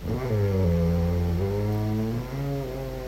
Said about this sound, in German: das gibt es wirklich nur hier, eine ganz spezielle Aufnahme meines Schnarchens. Enjoy.